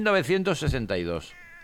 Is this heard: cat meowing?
yes